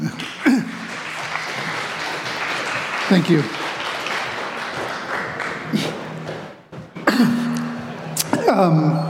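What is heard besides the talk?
audience applause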